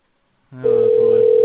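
telephone ringing

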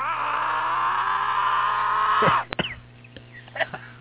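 group scream

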